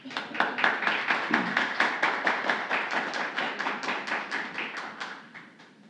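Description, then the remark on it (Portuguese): Applause at a tribute ceremony as an honoree is called up to receive a tribute comes as a steady, rhythmic run of crisp hand claps, about four per second, keeping an even beat for several seconds before softening slightly at the end, with no one talking. “Pedimos uma calorosa salva de palmas nesse momento ao senhor”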